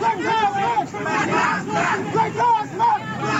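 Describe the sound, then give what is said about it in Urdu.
A large protest crowd in the US state of Louisiana chants and shouts together in loud, rhythmic bursts, many voices rising and falling in unison with a dense babble of voices underneath. “یہ مظاہرہ امریکی ریاست لوزیانا میں کیا جا رہا ہے”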